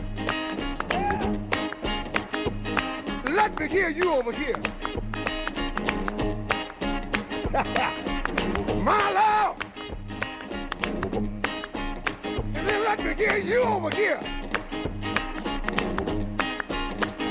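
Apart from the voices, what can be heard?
audience clapping hands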